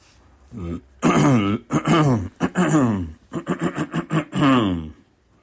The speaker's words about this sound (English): Let me clear my throat.